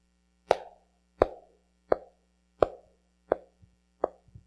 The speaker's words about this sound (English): And war marches ahead through human history in the same way that you hear boots marching ahead in an army.